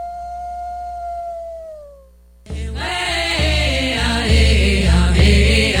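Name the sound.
wolf howling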